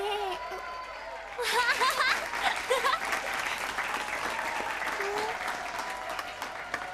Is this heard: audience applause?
yes